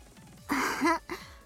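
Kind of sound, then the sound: human body sound, big yawn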